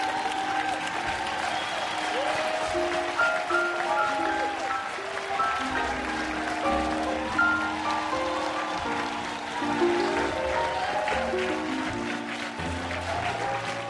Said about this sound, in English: Okay, and if you could just give a big round of applause to everybody you saw tonight. If we could see everybody, take a bow.